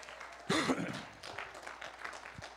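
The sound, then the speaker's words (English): A church audience breaks into brief, scattered applause during a sermon as the preacher calls for more claps, opening with a loud burst and a short vocal shout, then continuing as a lighter, uneven patter of clapping. “Come on, church. I need to get more claps than that.”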